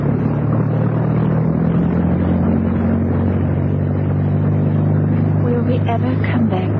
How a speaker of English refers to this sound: And then suddenly, with a roar, the MTB's young commander put his engines into full ahead.